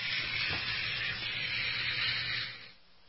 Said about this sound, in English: But let's listen in here to Speaker Johnson talking about, you know, his philosophies and sort of where we're going from here. Let's listen in. Lots of applause.